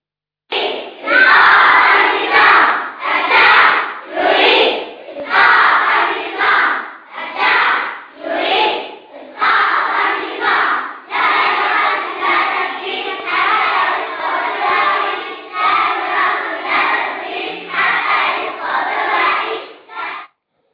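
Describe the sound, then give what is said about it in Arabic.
A group of young schoolchildren in Syria chant the slogan "The people want to bring down the regime" together in loud, high-pitched unison, the rhythmic phrase repeating in steady bursts with brief pauses between each shout. “هكذا كما سمعنا وشاهدنا مشاهدي الكرام، حتى الأطفال الصغار في مدارسهم أصبحوا يطلقون هذا الشعار: الشعب يريد إسقاط النظام”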